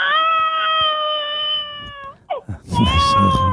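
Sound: baby crying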